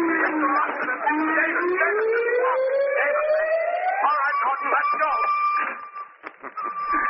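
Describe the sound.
A loud, sustained whistle blows, its tone sliding steadily upward in pitch for several seconds before leveling off, with a busy, clattering background and murmuring voices underneath.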